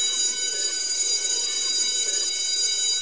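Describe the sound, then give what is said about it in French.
A school bell rings loud and continuous for the whole stretch, a bright, buzzing metallic clang held without a break, with no voices. “La cloche a sonné, la cloche a sonné.”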